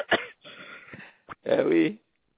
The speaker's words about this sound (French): Oh, vous me faites tousser.